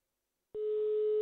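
After a brief silence, a steady single-pitched telephone ringing tone of an outgoing call starts and holds clearly to the end, heard on the line with no one talking.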